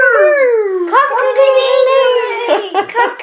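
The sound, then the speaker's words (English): During a game of Simon Says, a child's voice imitates a rooster crowing: one long, strained, wavering call lasting a few seconds, with the pitch sliding upward and ending in a broken, giggly flourish. “Oh, that was the worst rooster sound in the world.”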